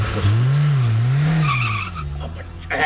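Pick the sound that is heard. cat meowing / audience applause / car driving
car driving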